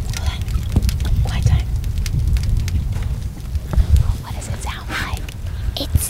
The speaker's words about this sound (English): Sounds like Rice Krispies. Yeah. Most of the scientists you talk to say it sounds like bacon frying or twigs crackling in a fire.